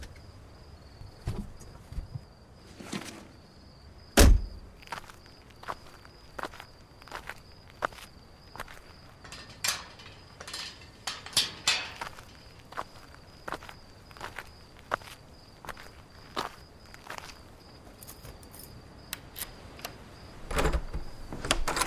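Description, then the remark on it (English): Footsteps walk into a house and its pitch-black living room at night, at an uneven, unhurried pace, each step a soft scuff or tap, with one heavier thud early on. A thin, steady high-pitched whine hums underneath throughout, and no one speaks. “I walked inside to a pitch-black living room.”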